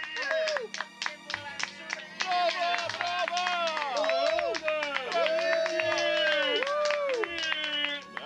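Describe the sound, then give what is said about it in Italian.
A large crowd in Bellinzona claps steadily and cheers loudly for a human cannonball woman who has just landed on a huge cushion. Many overlapping shouting voices rise and fall above the dense, continuous applause for several seconds. “Si è prontamente rialzata e sta ringraziando la folla.”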